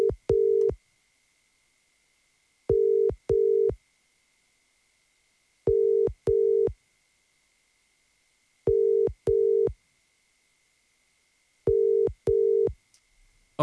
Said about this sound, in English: we are going to be ringing someone very, very shortly. And they, if they answer the phone, win 1,000 euro